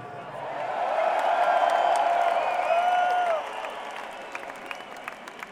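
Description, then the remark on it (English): A crowd applauds and cheers loudly, with whoops and whistles rising above sustained clapping for about three seconds before it thins out into scattered claps and voices. “applause, everybody.”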